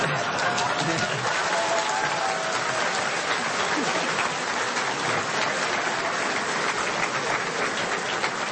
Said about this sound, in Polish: No, powiem żonie, że to mnie klaskano, a kto tam będzie wiedział.